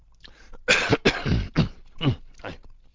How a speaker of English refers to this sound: hate audios when people cough. Okay, now, especially if it's me.